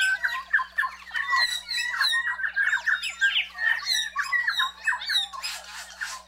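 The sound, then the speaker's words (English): Korimako (New Zealand bellbird) song: a dense, unbroken stream of overlapping ringing, bell-like notes mixed with harsher squawky calls, lively and fairly loud throughout, with no talking. “So their brilliant songs may ring through forests for years to come.”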